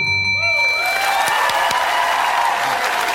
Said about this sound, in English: How many bells do we have? That's a good bell, though. That's a really like clear sounding bell. That's a good one.